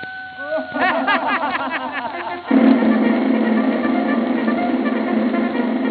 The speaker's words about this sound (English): And old Red Top the Rooster. Goodbye, Reddy.